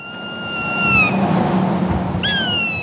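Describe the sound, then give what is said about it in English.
Two drawn-out, high, slightly falling screeches from hawks on a telephone wire in a remote high desert valley near Baker City, one at the start and another near the end, over a steady low rumble of wind or background noise. “Hawks squawk on a telephone wire in a remote high desert valley near Baker City”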